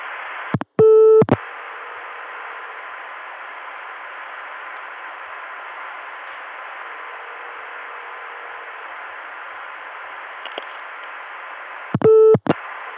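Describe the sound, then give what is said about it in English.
A faint, distant telephone ringback tone of a call placed back to the caller's own number repeats in long slow cycles beneath steady phone-line hiss, with short loud tone bursts near the start and end. “It's barely audible, but you can hear the ringtone of the call back to myself way off in the distance.”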